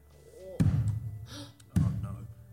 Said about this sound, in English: The thump of books falling to the ground. All three of you look around you as you notice books start falling off the shelves around you.